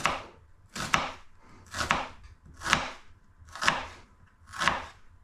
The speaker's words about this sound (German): Und dann wieder quer nehmen und in kleine Würfelchen schneiden. Und so flott kriegst du eine große weiße Zwiebel reingeschnitten. So, siehst du? Kleine Würfelchen.